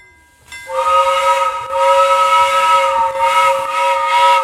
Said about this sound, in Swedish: Bara för att visualisera tåget, eller audalisera, ja.